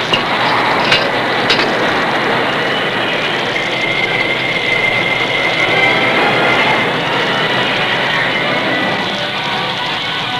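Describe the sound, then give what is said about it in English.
An old work train engine grinds along with a steady, loud rumbling roar while a high, thin metallic squeal of braking wheels rises in the middle and holds for several seconds as it slows to a stop. “As the old work engine squealed to a stop, the Lone Ranger glanced out the cab window at the curving sweep of track beyond.”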